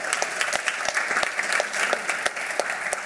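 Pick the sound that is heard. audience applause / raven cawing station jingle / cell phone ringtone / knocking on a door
audience applause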